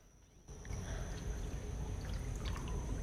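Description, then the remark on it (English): Soap drops into bath water with a soft splash, followed by a steady slosh and churn of water that continues to the end, with no voices. “She drops the soap in the water, catching a splash in her eye.”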